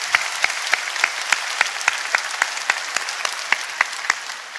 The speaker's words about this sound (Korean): 하나님께 영광의 박수 올려드리겠습니다.